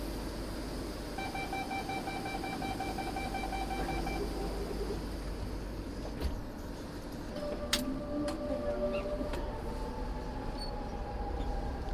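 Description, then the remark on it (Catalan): Inside a quiet commuter train carriage on the Ferrocarrils de la Generalitat Vallès line at a quarter past 8 in the morning: a steady low rumble runs throughout, with a brief whining electrical tone early on and a few scattered clicks and clunks later. No one talks. “Per exemple, Ferrocarrils de la Generalitat, línia del Vallès, 2:15 de 8 del matí.”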